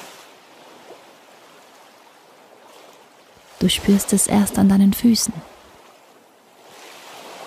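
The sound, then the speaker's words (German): Soft, steady wash of sea water lapping around someone walking on sand, a continuous gentle rushing hiss. Midway a person speaks briefly over it, then the water sound continues alone. “Je weiter du gehst, desto stärker nimmst du die Geräusche und vor allem das Wasser um dich herum wahr.”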